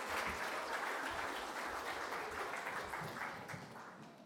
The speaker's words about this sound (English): So well done, you two as well. Give them both a big round of applause.